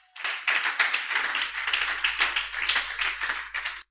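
An audience breaks into steady, dense applause as an offering of acclamation to the Lord, many hands clapping at once in a loud, continuous wash that swells and dips slightly for a few seconds before stopping abruptly.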